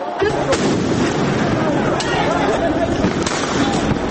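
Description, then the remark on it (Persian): Several sharp gunshot-like bangs fired at irregular intervals, ringing out over a loud, continuous roar of crowd noise and commotion, with voices shouting faintly in the din. Police fire tear gas and rubber bullets at some 300,000 demonstrators in Rio de Janeiro, Brazil, host of Confederations Cup football matches. “در ریو دو ژانیرو، جایی که میزبان مهمترین بازی های جام فوتبال کنفدراسیون هاست، پلیس گاز اشک‌آور و گلوله های لاستیکی به سوی تظاهرکنندگانی شلیک می کند که شمارشان بالغ بر 300 هزار نفر می شد.”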